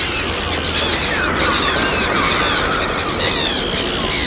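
A large flock of seagulls screeching as it flies over a city, many loud overlapping cries forming a dense, continuous, raucous clamor with no pauses.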